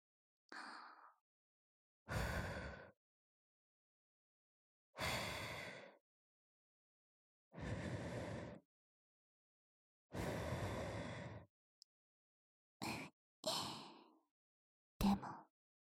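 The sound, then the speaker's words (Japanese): Airy breaths blown softly into the ear, about eight puffs at uneven intervals, some long and sighing, the last few short and quick, with silence between and no talking. “顔は正直、耳に吐息吹きかけられただけでおちんぽ薄いてるの丸わかりだよ。”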